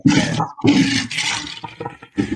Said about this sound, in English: Toilet flush.